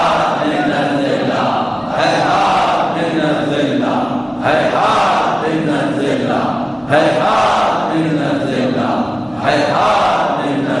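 A large Shia crowd chants religious slogans of Imam Husayn from Karbala in unison, loud, with a forceful shout repeating roughly every two and a half seconds over a constant roar of voices.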